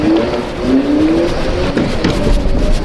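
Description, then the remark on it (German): An electric scooter motor speeds up during a test ride as the throttle is opened, the scooter lurching forward; its steady whir is joined by a thin whine that glides upward in pitch, sounding a bit like a small vacuum cleaner. No one speaks. “Hört man etwas, das klingt wie ein abgespeckter Staubsauger.”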